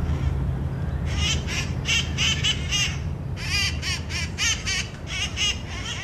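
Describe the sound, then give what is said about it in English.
A flock of green birds hopping from branch to branch in trees screeches in rapid, overlapping bursts, loud, with harsh squawks repeating for several seconds over a steady low rumble of car traffic below. “The green birds are hopping from branch to branch like little monkeys, drowning out the sounds of the cars below.”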